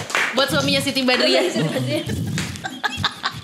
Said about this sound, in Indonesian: Tepuk tangan dong. Buat suaminya Siti Badriah.